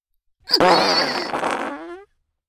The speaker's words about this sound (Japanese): どう？ 屁の匂いが直接鼻に流れ込んでくるでしょう。